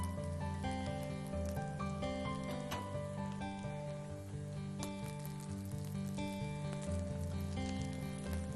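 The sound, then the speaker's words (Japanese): A steady sizzle of food frying in melted butter, dropped around the food at the end for aroma, a continuous crackling hiss with tiny pops scattered throughout and no voices. “全体的にバターが溶けて香りがしてきたら焼き上がりです。”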